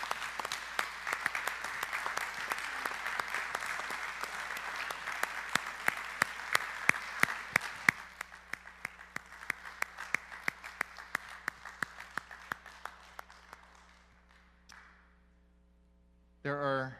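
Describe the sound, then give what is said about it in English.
A church audience gives sustained applause for its elders' service, dense and steady with sharp individual claps poking through, thinning out after several seconds and fading, then a brief burst of voice at the very end. “Can you just give them a round of applause for their service?”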